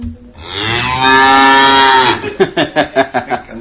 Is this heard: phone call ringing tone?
no